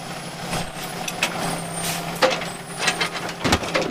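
A massive red garbage truck's heavy engine rumbles steadily in the rain, with sharp hissing bursts like air brakes releasing and a few clanks breaking through the drone.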